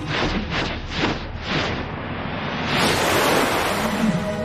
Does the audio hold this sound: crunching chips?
no